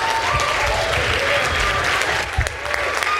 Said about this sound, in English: Please applaud them.